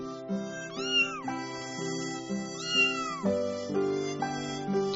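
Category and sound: animal, cat meowing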